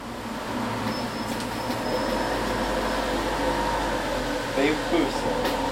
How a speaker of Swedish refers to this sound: Hej, och i närheten av busskuren på Skillinge busstation har ett 10-tal personer samlats när den gröna, vackert målade bokbussen så småningom rullar in. Den har motiv som för tankarna till en sagoregnskog.